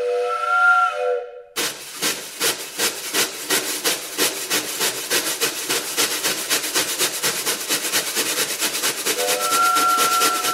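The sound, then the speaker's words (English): A train whistle, played by drummers behind a silent-film movie screen, blows loudly to signal a train approaching, giving way to a fast, steady chugging of wooden clacks from woodblocks and hissing strokes; near the end the whistle sounds again over the continuing rhythm. “Perched behind the movie screen, drummers played woodblocks and whistles to signal the train approaching the damsel in distress.”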